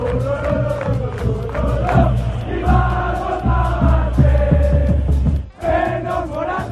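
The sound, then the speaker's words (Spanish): A huge football stadium crowd at the Metropolitano chants at Álvaro Morata in unison, a loud, rhythmic repeated phrase sung by thousands of voices, briefly dropping off for a moment before the chant surges back. “Vikingo, vikingo, le gritaban en el Metropolitano cuando Morata era ya futbolista del Atleti.”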